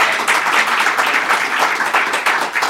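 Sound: audience clapping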